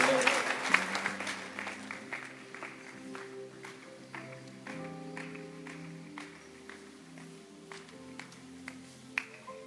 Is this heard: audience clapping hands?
yes